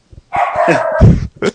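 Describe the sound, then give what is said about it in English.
A dog barks loudly in the background, a sustained strained bark followed by a couple of quick short yips, with no talking. “Dog in the background.”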